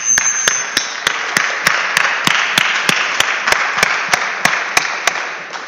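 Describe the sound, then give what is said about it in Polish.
A crowd applauds steadily, a dense wash of clapping with one sharp, regular clap cutting through about four times a second, loud and sustained throughout with no talking. “Gorące brawa dla was.”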